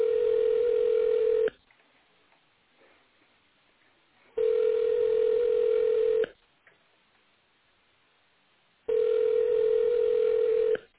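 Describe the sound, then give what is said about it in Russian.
A telephone ringback tone of a call that goes unanswered repeats three times, each a steady, low, slightly buzzy beep lasting about two seconds, separated by silent pauses of roughly three seconds, with no voices. “Продолжаю вызов. Пока что абонент не отвечает.”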